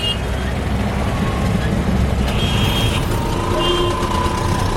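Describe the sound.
Dense, steady roar of busy city traffic in New Delhi, India, with heavy trucks rumbling, punctuated by a few high electronic beeps or horn tones, and a faint murmur of voices beneath.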